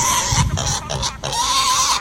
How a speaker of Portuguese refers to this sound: Os porcos fugiram do chiqueiro.